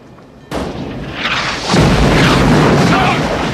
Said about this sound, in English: The van pitches violently as the police cars explode into sheets of flame.